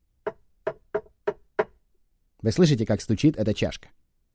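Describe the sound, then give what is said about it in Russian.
A cup knocks against a hard surface five times in a quick, steady rhythm, crisp, followed by a person talking. “Послушайте, вы слышите, как стучит эта чашка, не так ли?”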